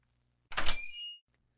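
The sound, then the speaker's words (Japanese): A door bangs open as someone suddenly enters, with a single sharp thud, followed by a brief metallic rattle and creak as it swings, loud against an otherwise quiet background. “いきなり入ってくんじゃねえよ。”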